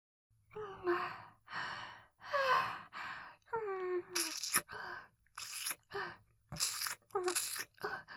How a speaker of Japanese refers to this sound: 左のお耳はいっぱい近くで、はぁはぁって息を荒げながら舐めてあげるね。